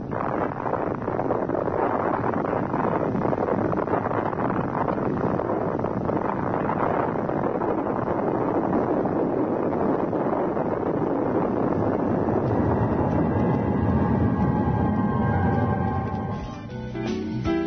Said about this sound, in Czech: Ovo je autentičan snimak eksplozije atomske bombe.